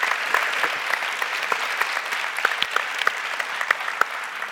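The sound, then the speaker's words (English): An audience claps steadily, a dense wash of many hands with sharper individual claps popping out irregularly, holding an even loudness throughout without any voices, a round of applause for federal judge Thelton Henderson. “We have one of the great, we should give a round of applause, one of the great federal judge, Thelton Henderson.”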